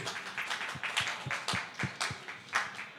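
Audience applause as a vote for the Prince from Prince of Persia: a steady patter of many hands clapping at once, with a few sharper individual claps standing out, moderately loud and with no voices over it.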